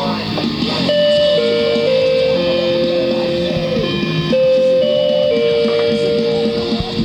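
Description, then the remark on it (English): A doorbell installed in a bedroom plays a short descending chime melody twice in a row, loud, with a steady hum of background noise underneath. “What you just heard was a doorbell.”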